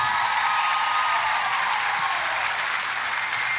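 A crowd applauds steadily, a dense wash of clapping hands holding at an even loudness throughout with no voices on top.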